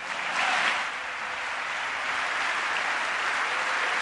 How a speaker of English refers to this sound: On the Democratic side, many people sitting on their hands, not joining in the applause. Definitely a partisan response to this speech so far in Congress.